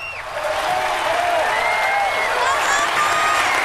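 A large audience applauds steadily, dense clapping filling the room with a continuous roar, with scattered cheers and whistles rising above it.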